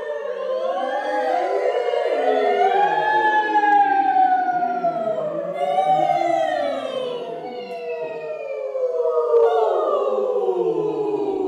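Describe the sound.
A chorus at rehearsal, playing a crew of sea hands, imitates wailing sirens, many overlapping tones sliding up and down in long eerie swoops. The sustained, fairly loud chorus fills the whole clip with no speech.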